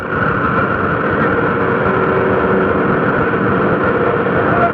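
A helicopter drones overhead during a baseball game, a steady, loud engine roar with a rough low rumble that holds constant throughout, with no voices.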